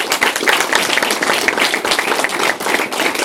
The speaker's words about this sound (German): In jedem Fall möchte ich mich erstmal bedanken für diese großartige und sehr variable und anspruchsvolle Diskussion. Vielen, vielen Dank fürs Zuhören und erstmal einen Applaus für die 4 Diskutanten hier vorne. Vielen, vielen Dank.